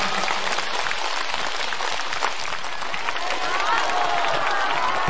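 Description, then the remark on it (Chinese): Warm, sustained applause from a large audience fills the space, given in thanks to Guanyin Bodhisattva and Master Lu Junhong, dense steady clapping at moderate loudness with a faint murmur of crowd voices beneath it. “让我们再次以热烈的掌声感恩大慈大悲的观世音菩萨，感恩大慈大悲的卢军宏台长。”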